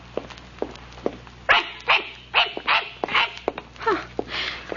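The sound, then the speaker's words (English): A small brown dog being led on a walk in a park yaps repeatedly, starting with a few light, quick yips that grow into a steady run of louder, high-pitched barks, with no one speaking. “And then Kate frowns, puzzled, as she looks at the small brown dog the smartly dressed young woman is leading.”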